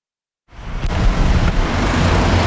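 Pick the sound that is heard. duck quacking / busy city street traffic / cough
busy city street traffic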